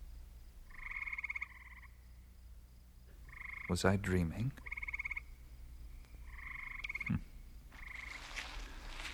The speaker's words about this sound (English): The frogs seem back to normal.